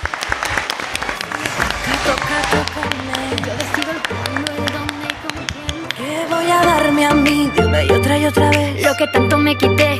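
Steady audience applause of many hands clapping together, mixed with upbeat music underneath; the clapping and music swell louder partway through and carry on to the end.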